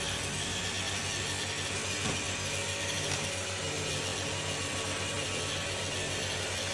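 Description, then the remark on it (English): An iRobot Roomba robot vacuum runs steadily, its motor giving a constant low droning hum wrapped in a broad, airy whoosh that stays even in loudness throughout, with no voices. “So don't worry, you're not hearing white noise, you're hearing the Roomba.”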